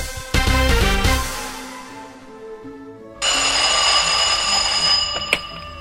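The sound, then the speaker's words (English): A telephone rings on an outgoing call to Rent-A-Killer: a few short tonal pulses, a brief lull, then a loud, steady ringing tone that carries to the end. No one speaks. “Okay, go ahead and phone them if you know what you're doing.”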